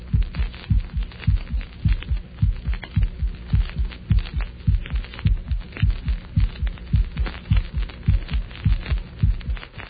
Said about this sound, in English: For orientation, the first illustration is that of the heart sounds heard at the apex from a normal individual.